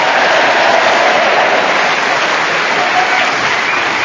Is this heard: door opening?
no